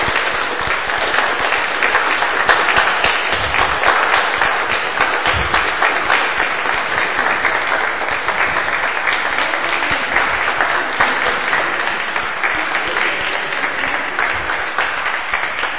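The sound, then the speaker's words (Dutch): Sustained audience applause for four participants coming to the front, a dense crackle of many hands clapping at a steady, loud level for the whole stretch without letting up, with no voices standing out. “Een welverdiend applaus.”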